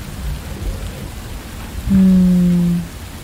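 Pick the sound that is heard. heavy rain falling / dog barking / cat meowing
heavy rain falling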